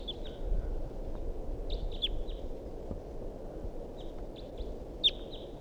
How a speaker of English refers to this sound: So recording, this is the vocalizations of a wild bird that's here up in the big pine tree above the net. Wild bird calls and decoys respond.